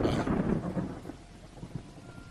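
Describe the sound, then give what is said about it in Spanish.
Heavy rain pours down steadily as a dense hiss, with a deep thunder-like rumble at the start that fades into softer, uneven patter. No voices are heard. “Así que esa misma noche, los jóvenes se dirigieron a la casa tal y como habían planeado, pero con tan mala suerte que empezó a llover.”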